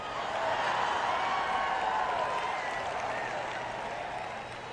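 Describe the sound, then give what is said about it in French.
An evening crowd with more women than men applauds steadily, dense clapping holding at an even loudness for several seconds before easing slightly toward the end, with no one speaking over it. “On m'applaudit beaucoup ce soir parce qu'il y a plus de femmes ici ce soir que d'hommes.”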